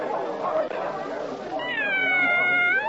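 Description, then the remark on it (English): A long, wavering meow, voiced by a person imitating the Cheshire Cat, rises loud in the second half after a stretch of muffled, busy background noise from a croquet game. “Oh, it's the Cheshire Cat.”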